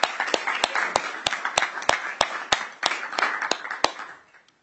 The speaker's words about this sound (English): Members, please join me in giving a round of applause for Co-Chair Rarick. Welcome back.